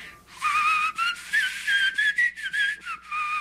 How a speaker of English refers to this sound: And then you have someone who can whistle through their teeth and the